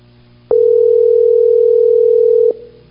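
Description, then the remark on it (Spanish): A single loud, steady electronic ringing tone from a WhatsApp call being placed sounds for about two seconds, then cuts off, over a faint low background hum with no voices. “Pero bueno, vamos a ver qué pasa con la llamada por WhatsApp.”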